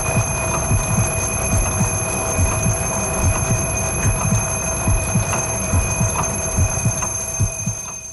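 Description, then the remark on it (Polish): An alarm clock rings steadily for about eight seconds, a continuous high-pitched electric tone over a rough, rattling low buzz, fairly loud throughout with no voices. “Chyba wszystkich dzisiaj wieczorem obudziła nas tym dzwonkiem Paulina Zaręba”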